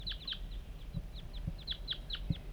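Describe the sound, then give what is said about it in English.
Wild birds coming in call in a quick, uneven series of short, high chirping clucks over a steady low rumble, with a few soft thumps mixed in and no talking. “49, wild birds are coming now.”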